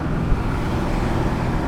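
A car passes on the highway amid a steady, loud roar of road and wind noise, heard from inside a moving car in fifth gear at about 60 miles an hour and 2,000 to 2,500 RPM with both windows open; no one talks.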